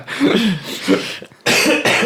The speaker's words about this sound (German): Ich habe gerade einmal gehustet vor Lachen.